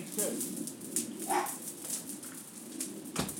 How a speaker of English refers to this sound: They are barking like there's someone there. Someone there? They're a couple of old fools, aren't they? I don't know what they're barking at.